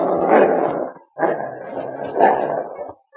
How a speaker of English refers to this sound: The sergeant had said quiet. And although the other dogs understood the word, King reinforced the order with a growl.